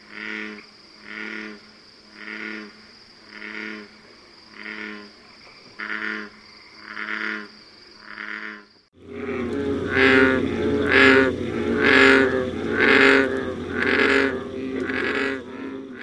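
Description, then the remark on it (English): American bullfrogs, the largest native frog in North America, typically 4 to 6 inches long, croak in a steady rhythm, about one deep pulsing call per second, then swell into a louder, denser chorus of overlapping calls for the second half. “You heard calls of the American bullfrog, the largest native frog in North America, with a length typically of 4 to 6 inches, and sometimes as much as 8 inches.”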